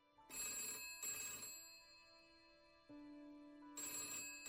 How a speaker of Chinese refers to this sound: 正说着呢，电话铃响了